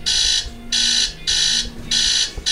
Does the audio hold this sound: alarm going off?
yes